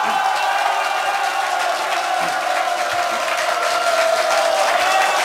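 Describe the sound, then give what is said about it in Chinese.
An audience bursts into loud, sustained applause mixed with cheering and whoops, a dense wash of clapping that holds steady for several seconds without any speech over it. “再来一点兴奋的掌声，我就告诉你。”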